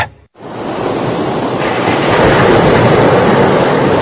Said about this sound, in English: That's the beautiful sound of the ocean, but hidden within that sound are thousands of special subliminal messages.